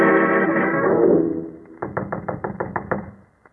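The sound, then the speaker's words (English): A sustained, humming musical tone fades out, then a quick run of about eight firm, evenly spaced knocks raps on the wooden door of a professor's cottage at Boar's Hill before dying away. “Knock once more, Watson.”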